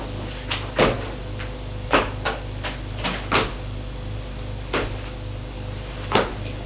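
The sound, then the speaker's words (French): A heavy cellar door is shoved open with effort: a series of irregular wooden knocks and scrapes over a steady low hum with no one speaking. “Il réussit en poussant très fort, tu vois la porte de la cave où il y a le lit en fer.”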